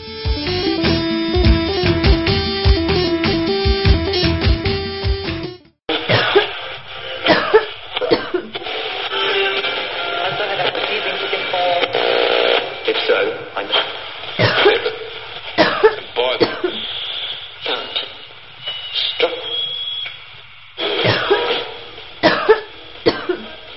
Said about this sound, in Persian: اینجا آمده تخ تخ سرفه کده میره